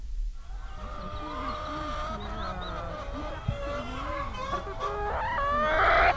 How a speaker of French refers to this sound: En ce moment, on a 1200, 1300 poules. Ça fait à peu près 1000 œufs par jour.